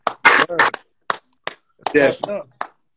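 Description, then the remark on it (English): A few sharp, isolated clap sound effects, played by pressing a soundboard clap button, pop out at irregular intervals, interspersed with bursts of loud, excited voices shouting between them. “You got to press the clap button for that one because that's true.”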